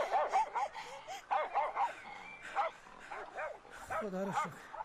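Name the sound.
sheepdog barking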